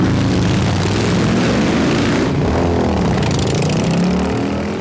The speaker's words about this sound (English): I will hear a Harley-Davidson coming, and still in my brain, it triggers, oh, here comes a really powerful motorcycle. It must be going 100 miles an hour, and then the Harley-Davidson goes by at 20 miles an hour.